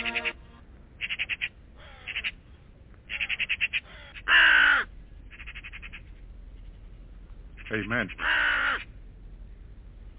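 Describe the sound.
A raven caws repeatedly in harsh, raspy bursts, some quick and clipped, others louder and drawn out near the end, with a voice briefly speaking among the calls.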